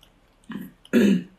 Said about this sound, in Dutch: Oh, verslik me dat. Oh, je verslik je meteen.